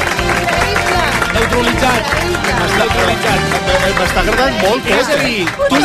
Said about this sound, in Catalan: Un aplaudiment per ell, sisplau. Gràcies.